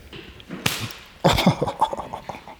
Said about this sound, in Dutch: Deze klinkt heel erg zacht, maar hij is heel erg raar. Het is echt een heel vervelend zweepje.